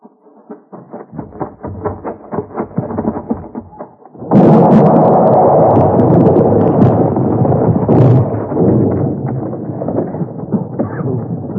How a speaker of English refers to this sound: Won't they hear the blast up there? Oh, not enough.